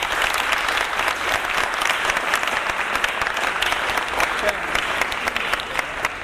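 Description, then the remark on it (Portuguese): Sustained applause from a crowd in honor of a deceased man, dense and steady clapping filling the whole stretch at a fairly loud level, with no pauses and no talking over it. “E agora sim, eu queria pedir uma salva de palmas a ele, que Deus o tenha.”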